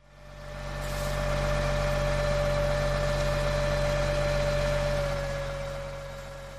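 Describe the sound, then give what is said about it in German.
A large fuel tanker truck engine idles steadily while it brings kerosene to an airplane, a deep rumble with a constant droning hum that swells in over the first second and holds before easing slightly at the end. “Stattdessen bringt der große Laster das Kerosin.”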